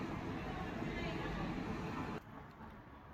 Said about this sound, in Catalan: O sea, esto es insoportable, nunca ha sido así y ahora no entiendo qué pasa esto. És la maquinària de la refrigeració de La Farga.